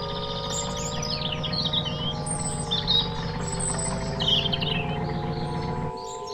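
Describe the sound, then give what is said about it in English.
A large, bright red robin sitting in the middle of a winding country road chirps in quick, high, bright bursts again and again. Under it runs the steady low hum and rumble of a car's motor, which drops away just before the end. “A large, bright red robin sits in the middle of the road.”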